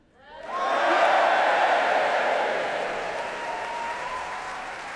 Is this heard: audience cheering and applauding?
yes